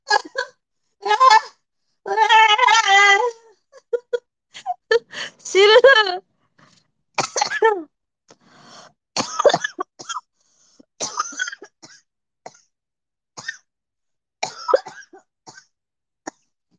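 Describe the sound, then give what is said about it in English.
A prolonged coughing fit: a rapid string of harsh coughs broken by raspy, honking gasps for breath, trailing off into scattered smaller coughs and throat-clearing. “When I started this place, I started coughing.”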